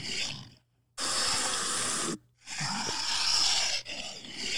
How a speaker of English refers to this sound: It was definitely a Komodo dragon.